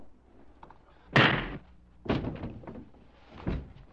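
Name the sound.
door bursting open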